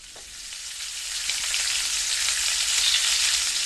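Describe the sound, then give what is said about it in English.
Bacon sizzles steadily in a frying pan, a dense crackling hiss that builds slightly in loudness and continues without any talking. “The sound of sizzling bacon and the delicious smell that goes along with it is a good indication of how far along the cooking is and whether it's time to turn it or serve it up.”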